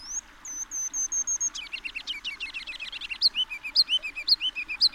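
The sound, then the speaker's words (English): A kinglet sings a rambling, high-pitched song from trees along a creek in a downtown park at dawn in spring: thin repeated notes give way to a rapid, stuttering run of chirps, then bright rising-and-falling whistled phrases, with no talking. “A kinglet's rambling silly song?”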